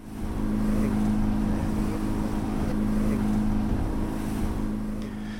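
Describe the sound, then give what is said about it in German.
The engine of an inflatable motorboat roars steadily as it races over the waves back toward Ponza, a strong low hum with a sustained tonal drone, mixed with rushing water and wind buffeting the microphone. “er holt uns wieder ab und wir preschen über die Wellen zurück Richtung Ponza.”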